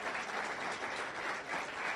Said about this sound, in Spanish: Los felicito, deseen un fuerte aplauso.